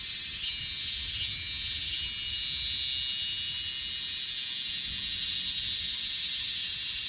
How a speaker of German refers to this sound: Hörst du dieses? Da brummt immer noch mal zwischendurch. Das hier. Zikaden. Und manchmal hört sich ein bisschen an wie eine Flugzeugturbine fast. Es hört sich immer unterschiedlich an. Ja, es sind auch unterschiedliche Arten.